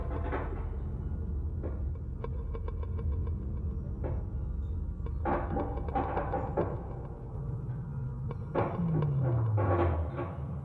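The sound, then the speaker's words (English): A lift hums and rumbles steadily, with scattered clunks and rattles, then its motor whines down in pitch as it stops at level 10 and the doors begin to slide open. “Lift! Take us to level 10.”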